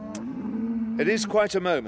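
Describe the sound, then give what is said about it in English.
A long, low cow moo drones for about a second, steady, as a herd of cattle is loaded onto lorries, and then a person starts talking over the fading livestock noise. “Yeah, you've put a lot into breeding that herd.”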